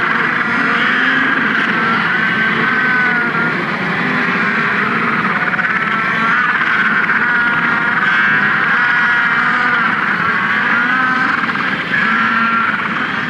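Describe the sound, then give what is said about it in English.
A dense, unbroken chorus of hundreds of thousands of small penguins in a colony at Herd Point screeching together, countless shrill, overlapping calls forming a loud, steady wall of sound with no voices. “that you can almost not distinguish one singular penguin, but they're just like screechy little penguins, and that's the sound you go to sleep to when you're at Herd Point, because you're surrounded by hundreds of thousands of these tiny birds.”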